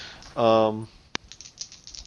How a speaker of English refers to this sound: The Doom Bowl. I'm going to have to write Doom on the side of this little cup I'm using for my dice.